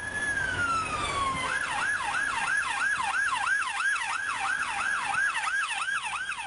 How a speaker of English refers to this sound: we need to see if the travels that he has been doing with Monocle through the years prove to be fruitful and he'll be able to guess the right siren.